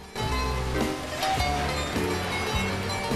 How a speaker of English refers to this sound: The slushy rain pelts down onto a car, which comes to a halt at some traffic lights.